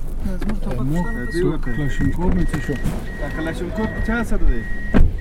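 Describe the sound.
A car drives along a road through a Taliban checkpoint with armed men at the roadside, a steady engine rumble beneath people talking, while a thin, high electronic tone beeps on and off in repeated bursts.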